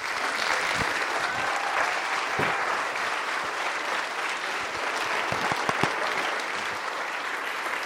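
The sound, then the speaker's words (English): An audience, asked to stand, applauding steadily to welcome Tom Duchill of Harare, Zimbabwe; dense clapping fills the whole stretch at an even, fairly loud level with a few sharper individual claps standing out, no speech over it. “You know, we applaud men, and that's okay, but we should worship God, and He is the source of every good thing”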